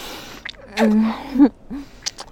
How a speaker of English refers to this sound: Do you have a preference for how I gasp?